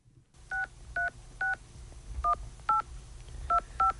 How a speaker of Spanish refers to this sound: vamos a llamar a Josep. A ver si me coge el teléfono.